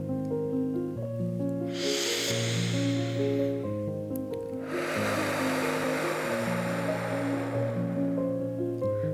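Two breathy rushes of air, a shorter one and then a long, slow exhale blown out through the mouth after a deep breath in through the nose, hissing steadily over soft, sustained background music, in a relaxation breathing exercise.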